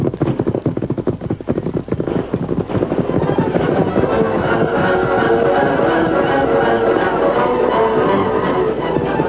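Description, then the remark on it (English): Scattered gunshots fired at night by mounted pursuers during a chase crack out in quick, irregular bursts, thickest in the first few seconds, then blur into a loud, dense rumble of noise that carries on to the end. “Tonto kept far enough ahead to be fairly safe from the scattered gunshots”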